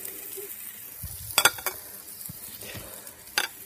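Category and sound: food or drink, food sizzling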